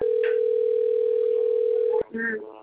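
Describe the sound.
A steady, loud telephone dial tone hums for about two seconds as a phone call is being placed, then cuts off abruptly, followed by brief muffled voices and noise.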